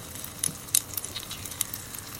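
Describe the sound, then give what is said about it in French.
100,000-year-old air bubbles escape from a very old ice core, recorded at the Laboratoire des géosciences de l'environnement in Grenoble, in a scattered, irregular crackle of sharp, bright little pops and clicks over a faint steady hiss, with no voices. “De l'air s'échappe d'une carotte de glace très ancienne. Ces bulles d'air que l'on écoute ont 100 000 ans.”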